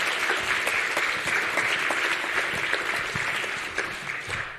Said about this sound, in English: Please welcome her with a big round of applause.